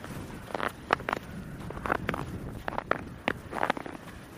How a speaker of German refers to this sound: Das sind Crocs im Schnee, liebe Leute.